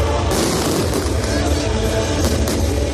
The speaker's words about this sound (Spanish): Bueno, e hai que decir que vuestros fuegos artificiales, además, creo que incluyen música, mira.